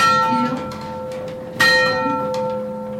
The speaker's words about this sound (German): Zur Bestätigung schlägt ein Hammer an die am Turm angebrachte sogenannte Uhrschelle. Wunderbar. Nichts verstellt, es hat gepasst. Eine Woche läuft jetzt die Uhr und schlägt die Stunde in der evangelischen Kirche St. Pankratius in Rothenschirmbach.